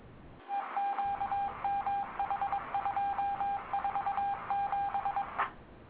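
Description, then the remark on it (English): A single steady electronic tone keys on and off in quick dots and dashes like Morse code, sounding thin as if over a phone line, for about five seconds. “The fuck we doing Morse code now, bitches?”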